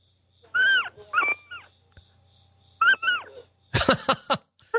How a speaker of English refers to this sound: Let me hear one of those kittens purr. Can you hold it up to the phone, you know, without hurting it or anything like that? That close enough? Yeah, let it squeal for just a little bit.